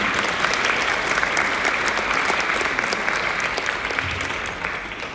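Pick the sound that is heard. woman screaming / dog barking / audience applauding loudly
audience applauding loudly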